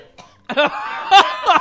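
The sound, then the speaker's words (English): A woman coughs in a few harsh, raspy bursts after drinking a drink, with a brief pause between fits and no talking. “coughing”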